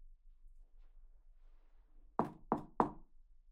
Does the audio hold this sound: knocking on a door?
yes